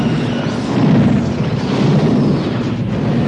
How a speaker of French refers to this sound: Alors, sans hésiter, il jeta de toutes ses forces son disque dans le canal d'accès du maître programme. Et soudain, ce fut l'explosion.